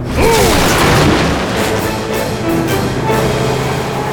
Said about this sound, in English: The aluminum door of the garage exploded outwards as the Eclair burst onto the street and turned sharply left.